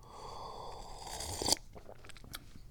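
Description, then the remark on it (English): Paper napkins lying on the floor crinkle and rustle as Pippa the cat attacks them: a steady crackly rustling builds to one sharp, loud crunch, then breaks into scattered lighter crackles. No one speaks. “Oh, she's attacking the napkins, the paper napkins that are sitting on the floor.”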